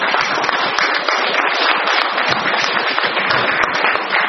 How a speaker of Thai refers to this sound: ดังนั้นปรบมือให้หน่อยนะครับ